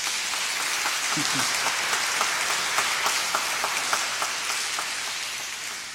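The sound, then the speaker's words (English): An audience applauding at the start of a worship service at West End United Methodist Church: many hands clapping in a dense, steady patter that holds at an even level for several seconds before easing slightly at the end, with a brief vocal murmur early on. “Would you all please give them a round of applause?”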